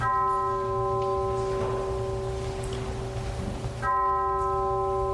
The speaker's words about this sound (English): Also at that vigil, bells tolling at a church to honor the victims.